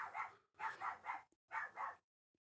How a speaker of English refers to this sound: They can't hear the dog, right? Can they not hear the dog? They can hear the dog. They can hear the dog. I can make sure they hear the dog.